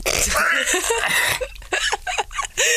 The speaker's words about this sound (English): Right, never try and force out too many burps at once.